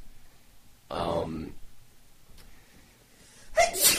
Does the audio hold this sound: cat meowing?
no